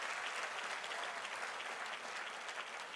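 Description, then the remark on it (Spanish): An audience applauds the Lord during a sermon, a dense, continuous wash of many hands clapping at an even loudness for the whole stretch, with no voices standing out. “Y si usted lo reconoce, dele un mejor aplauso al Señor de ahí.”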